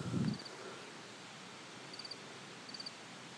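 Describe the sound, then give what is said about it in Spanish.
A lone cricket chirps on a mountainside above Vera de Bidasoa in short, evenly pulsed bursts every second or so, fairly faint against a steady outdoor hiss, with a brief low rustle at the start. “Un grillo solitario, de los primeros supongo.”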